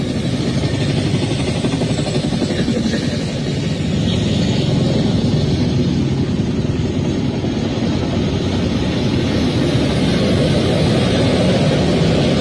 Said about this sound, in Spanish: Se escuchan helicópteros, son las 1:58 de la mañana. Están atacando el fuerte Piura.